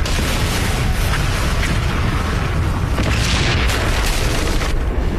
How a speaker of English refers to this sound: So they blow the shit out of this blasting jelly. It turns out blasting jelly is used for blasting, but it's also used for blasting.